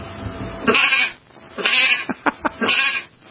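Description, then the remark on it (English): A person imitates a sheep, giving a long wavering bleat, then another, a quick run of three short stuttering bleats, and a final drawn-out one, loud. “Sheep.”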